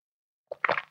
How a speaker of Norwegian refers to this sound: Unnskyld at jeg svelger så høyt. Jeg vet jeg gjør det, jeg beklager, jeg prøver ikke.